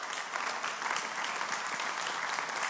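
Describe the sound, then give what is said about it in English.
Steady applause from an audience, a dense wash of many hands clapping at an even, fairly loud level throughout with no voices on top. “And so he will, we'll clap.”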